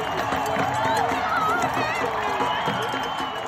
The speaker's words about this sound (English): People were dancing and beeping in the streets and in the parks. Where I was, I found people cheering toward the center as if they were all watching something.